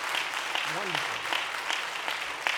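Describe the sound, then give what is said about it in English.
An audience at a morning worship service applauds the worship leader steadily, a dense wash of many hands clapping, with a brief voice rising over the clapping early on. “Can we give her another round of applause?”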